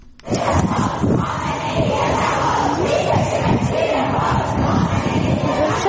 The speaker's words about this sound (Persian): در دانشگاه الزهرا نیز معترضان شعار دادند.